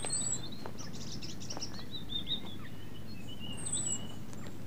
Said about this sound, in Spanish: Otro aviso. Esta vez lo emite un petirrojo.